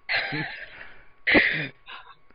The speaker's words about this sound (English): Sorry, I didn't mean to cause you to cough again.